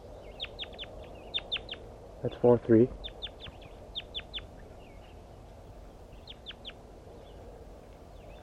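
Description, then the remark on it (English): Soft, high-pitched bird communication calls come in quick clusters of two to four short notes, repeating throughout, with a brief spoken voice breaking in partway through. “Start recording soft communication calls of the birds.”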